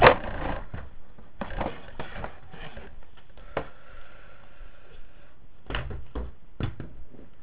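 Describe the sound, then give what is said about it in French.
Repeated knocks and rattles of a wardrobe door as a child standing in front of it tugs and bumps it, trying to open it: several sharp thuds spread over a few seconds with quiet scraping and fumbling between them, no talking. “Ah oui, mais tu peux pas ouvrir l'armoire, t'es devant.”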